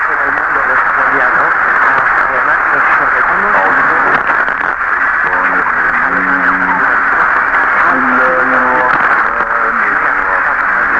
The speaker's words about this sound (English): The woman talking is from interference from station in Spain. The chants are from Egypt. This is at about 0010 UTC.